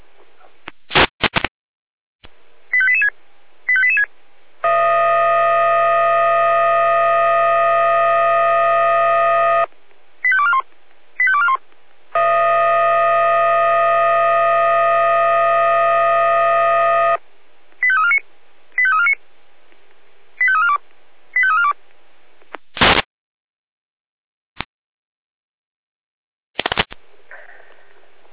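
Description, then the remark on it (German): Fire brigade alarm tones for a second alert to a building fire: rapid runs of short, high beeping pitches alternate with two long, steady chord-like tones of about five seconds each, ending in a few sharp clicks. No one speaks. “Achtung, Achtung, zweite Alarmierung, Feuerwehr, Kala, Florian, Kala, Brand, Gebäude, B2, zweite Alarmierung, Florian, Kala, es ist 14.38 Uhr.”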